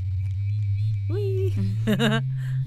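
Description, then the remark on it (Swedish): A grey, oval, round vibrator shaped like a beach stone buzzes with a steady, low, continuous hum throughout, while brief vocal sounds rise over it twice. “Den jag har med mig nu ser ut som en sten typ, som man hittar på stranden. Den är grå och oval och rund och passar fint i handen.”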